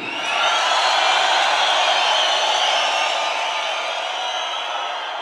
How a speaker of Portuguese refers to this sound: Apresentando a mulherada de todo o Brasil, quero que vocês recebam com muitas palmas